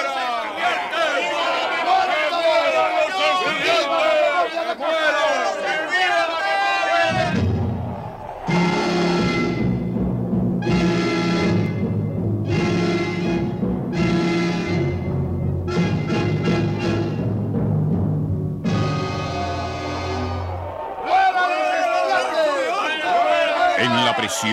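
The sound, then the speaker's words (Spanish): An angry crowd of volunteers outside a prison shouts in a dense, overlapping roar, then breaks into loud rhythmic chanted bursts, repeated cries in unison against the students with short gaps between, before the jumbled shouting swells again. “De sus labios salían siempre los mismos gritos.”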